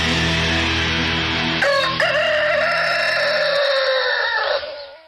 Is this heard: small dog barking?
no